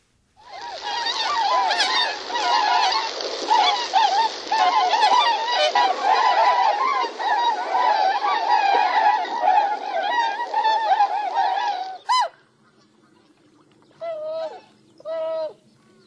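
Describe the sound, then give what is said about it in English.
A dense chorus of tundra swan calls, many overlapping high, hooting whoops from a large flock, continuous for about twelve seconds, then a few isolated calls after it thins out. “So that was the tundra swan, and now let's listen to the Canada goose.”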